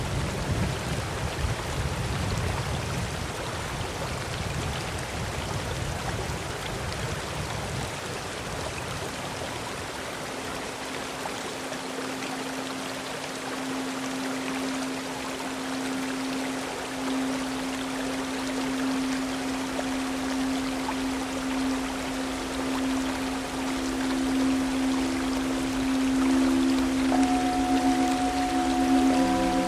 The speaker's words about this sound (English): The only thing I can hear right now, the only sound I can hear right now is the sound of a waterfall and the river that it runs into.